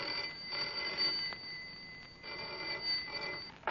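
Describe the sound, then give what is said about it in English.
A telephone rings in two long, bright electronic bursts separated by a short pause, steady in volume, with no voices. “Yet the trouble first appeared as the commonplace ringing of a telephone.”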